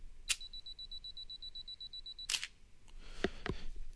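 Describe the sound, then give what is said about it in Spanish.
A sharp camera click on a tripod-mounted camera using mirror lock-up combined with the self-timer countdown, then a rapid string of high, steady self-timer beeps lasting about two seconds, ending in a loud mirror-and-shutter clack followed by a few softer mechanical clicks. “Entonces, para evitar esto, vamos a combinar las dos funciones, que es el espejo y la cuenta regresiva. En mi cámara, específicamente, pasa esto.”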